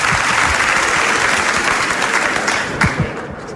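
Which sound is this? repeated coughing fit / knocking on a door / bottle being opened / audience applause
audience applause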